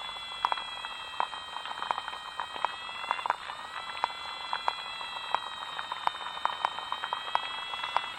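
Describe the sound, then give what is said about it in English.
Underwater field recording of water boatmen insects calling at Pollardstown Fen, Ireland, made by Tom Lawrence: thin, wavering high tones that rise and fall like a toy siren, over a steady bed of rapid ticking and scattered sharp clicks. “So this is an underwater field recording. There are some water boatmen in there.”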